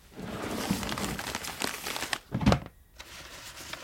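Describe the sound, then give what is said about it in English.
Dry old paper scraps taken from a rat's nest, one bearing music notation, rustle and crinkle as they are handled, with a few sharper crackles near the middle before a brief quiet pause and softer shuffling. “It is a small fragment, I would think, of paper.”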